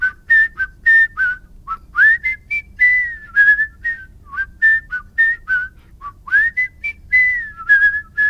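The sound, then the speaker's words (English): Clear whistling using the double-tone technique, two pitches sounding at once, played as a quick melodic run of short notes with a few held, gliding ones, and no talking. “And double tones.”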